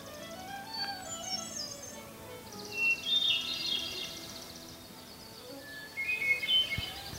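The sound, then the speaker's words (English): A hermit thrush sings its flute-like song on a quiet day in an area with a lot of conifers, each phrase opening with a clear held note followed by a cascade of ethereal, ringing notes, repeated with pauses against a quiet background. “It's that exquisite, just exquisite, flute-like song. There's a preliminary note and then a series of flute-like notes following that.”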